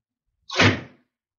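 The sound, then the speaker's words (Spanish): A single door shuts with a quick, fairly loud thud that rings briefly and fades, standing alone against silence with no voices. “Espera, espera un momento que cierro la puerta.”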